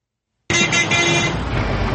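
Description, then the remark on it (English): After a brief silence, loud city traffic noise starts abruptly and continues steadily, with engine rumble and a tonal, horn-like layer, heard from aboard a bus approaching King's Cross in London outside rush hour, moving slowly in congested traffic. “On a bus approaching King's Cross.”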